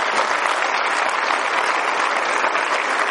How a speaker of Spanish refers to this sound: Una vez más, un aplauso para El Salvador.